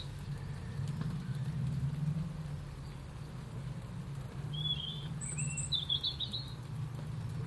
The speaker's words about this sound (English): It's raining again. Why hasn't it stopped since yesterday? Just carried on through. But at least it's not windy, so it's just the lovely straight down rain.